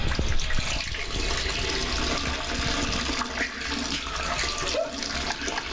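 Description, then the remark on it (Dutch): A strong, steady stream of urine splashes into toilet water, a continuous hissing, bubbling pour that stays loud for the whole stretch with no talking over it. “Met een koeien straal, man.”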